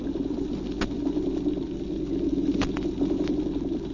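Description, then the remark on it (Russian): Underwater chorus on the sea floor: a steady low drumming hum of croaking drumfish beneath a dense crackle of small Alpheus snapping shrimp clicking their claws, with a few sharper, louder snaps standing out. No voices. “А в ответ им целый хор голосов. Рыбы-барабанщики поют свое, а рачки-алфеусы, рыбье поживо, мелкие рачки, свое.”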